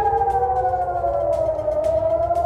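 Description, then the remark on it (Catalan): A loud, steady air raid siren wails continuously in Jerusalem, Israel, warning of a reported missile attack from Yemen; its sustained tone slowly falls in pitch, with a low rumble of background noise underneath and no voices. “Així han sonat a Jerusalem les sirenes per un suposat atac amb míssils des del Iemen.”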